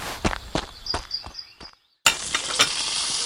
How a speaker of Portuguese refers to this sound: Na sua casa, … estão a mexer as panelas. As duas falam muito baixo enquanto enchem uma tigela com comida.